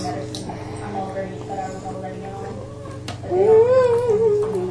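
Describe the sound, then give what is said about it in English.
A cat gives one drawn-out meow toward the end, clear, rising then sliding down. Underneath runs a steady low hum with soft, indistinct background noise. “Oh, hi, kitty.”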